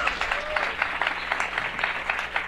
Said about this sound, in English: My first guest, you can applaud.